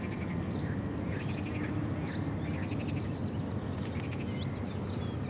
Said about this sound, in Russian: Лягушки кричат, птички поют.